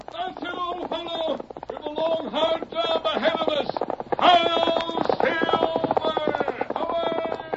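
The Lone Ranger's horse Silver gallops in the wild west, its hooves pounding in a steady, rapid rhythm. Loud orchestral music swells throughout, sounding like an old radio drama.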